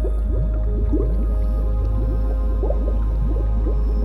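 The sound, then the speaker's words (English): Bubbles rising through water in a pool forming in the middle of a lake: a steady stream of quick, low-pitched gurgling pops and upward-sliding blips, overlapping over a deep constant rumble with no voices. “Now, you notice a pool of bubbles forming in the middle of the lake.”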